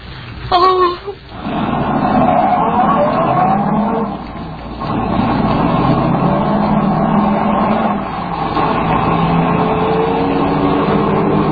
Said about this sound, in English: and when the officer up ahead waves his arm at you, slam on the brakes and stop fast.